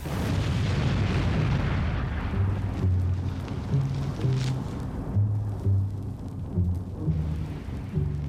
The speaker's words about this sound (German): Mit apokalyptischen Explosionen endet das Interludio.